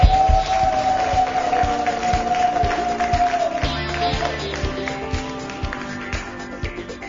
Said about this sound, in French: Merci d'être là, et à vous le public, merci d'être là ce matin pour participer à cette émission de la vie au quotidien. Sous vos applaudissements, s'il vous plaît.